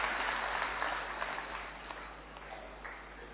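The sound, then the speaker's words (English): A crowd in a hall applauds with dense, steady clapping, starting full and gradually thinning and fading over a few seconds, welcoming a speaker who will talk about digital detoxification. “So we welcome our dear divine brother Bala Bhai with a big round of applause.”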